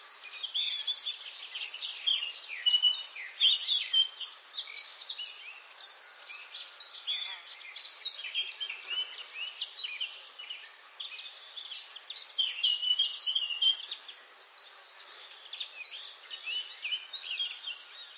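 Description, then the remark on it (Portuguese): A dense chorus of birds chirping and trilling without pause on a sunny morning, many overlapping high calls at a steady, moderate level, with no voices. “Certa manhã, o sol brilhava e os pássaros cantavam.”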